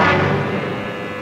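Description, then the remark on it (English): An old taxi's engine runs loudly and steadily, a rough rumble with a droning hum throughout and no voices. “I said, where did you get this pile of junk? Out of a car museum?”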